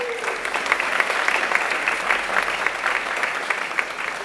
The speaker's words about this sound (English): Let's give him a round of applause on his first sermon ever.